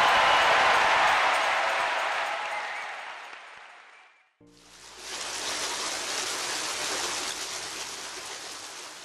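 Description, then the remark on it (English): Water from a fountain in Rome rushes and splashes steadily and fairly loudly, with a brief drop about halfway through before the flow resumes, brighter and hissier. “The constant flow of fresh water through the aqueducts and fountains of Rome has been a characteristic feature of the city since its earliest beginnings.”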